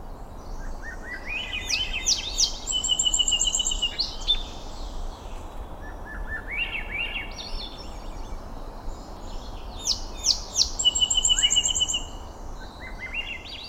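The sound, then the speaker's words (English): Spiraling, upward-rolling phrases of a Swainson's thrush repeat every few seconds alongside a song sparrow's bright trills and buzzy notes, both birds clear over a steady wash of low background noise. “In the following recording, Swainson's thrush shares the soundstage with a song sparrow.”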